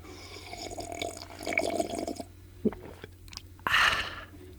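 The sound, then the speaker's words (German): Someone sips coffee: soft wet mouth sounds and a couple of sharp clicks, then a louder, airy slurp near the end, with no talking. “einen Schluck Kaffee zu mitnehmen.”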